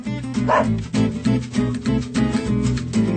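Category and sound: animal, dog barking and yipping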